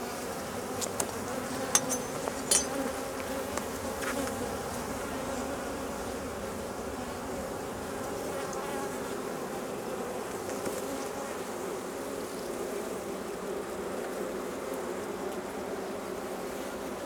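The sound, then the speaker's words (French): A dense, steady drone of about 40,000 to 50,000 honeybees buzzing inside a very strong hive, continuous, with a few faint clicks and taps early on and no voices. “l'autre ruche, c'est une ruche qui est très forte. En ce moment, il y a à peu près 40 à 50 000 abeilles à l'intérieur, effectivement avec 2 réos, une réos qui est déjà pleine de miel et une deuxième qui est à 80% bientôt remplie.”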